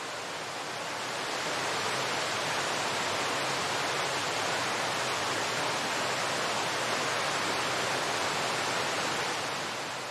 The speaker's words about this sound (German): Spüre die enorme Kraft des Wasserfalls Tamul, die auf jede einzelne Zelle deines Körpers übergeht. Und vielleicht kannst du einen geheimnisvollen Sog wahrnehmen.